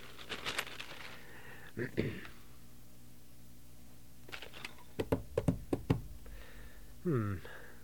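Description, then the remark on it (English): Sharp clicks of typing on a computer keyboard as a query is entered into an MCI hotline's information system, in two short bursts, a quick flurry at the start and a run of separate keystrokes later, with brief voice sounds in between. “So, let me punch it up here and see if I find any information on that in our information system.”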